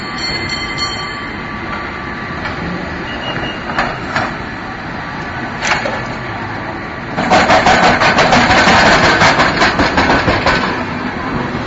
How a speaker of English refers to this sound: There's a cable car now. When you see a cable car, look at the bottom of it. You see wheels like a railroad wheel. And then in between them, you'll see the brakes, and the brakes are basically pieces of wood that rub against the track.